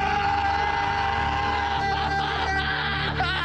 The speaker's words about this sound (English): Squeeze everything in your body. Exhale with a big ass scream.